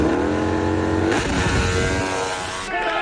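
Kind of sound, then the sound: vehicle, racing motorcycle engine revving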